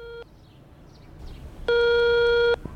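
A telephone rings with a steady electronic tone on a call made from a village phone booth: the tail of one ring, a pause of quiet background hiss, then a second long ring, with no voices.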